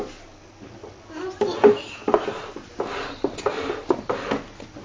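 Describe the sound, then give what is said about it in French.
A chair is moved into place for a child to sit on, with a series of irregular wooden knocks and brief scrapes over about five seconds, with faint murmurs of a child's voice in between. “Alors, regarde, on va prendre la chaise.”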